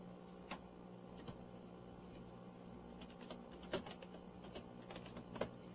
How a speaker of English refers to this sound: Just typing there for a minute. Just bear with me.